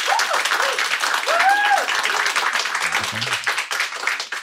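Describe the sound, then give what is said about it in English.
Steady, dense applause from a debate audience fills the whole stretch, a continuous wash of many hands clapping at even loudness, with a few faint voices and whistle-like tones showing through. The audience claps to vote yes on whether millennials will be left behind. “So right now, clap if you think, yes, millennials will be left behind.”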